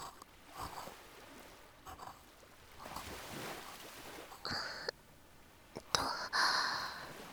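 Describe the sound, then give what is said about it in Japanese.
Ocean waves wash in a steady, broad rush of surf, swelling gently every few seconds, with a couple of brief brighter sounds cutting in near the end. “波の音とかもこの方がしっかり聞こえてるんじゃない？”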